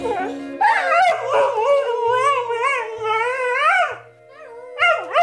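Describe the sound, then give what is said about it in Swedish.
A family in Sweden howls together with their dog, long wavering pitched wails rising and falling in a sustained chorus, fairly loud, tapering briefly before a final burst of howling, a family howl to show they belong to the pack. “Det där var vårt familjeyl som vi kör. För att visa att vi tillhör flocken.”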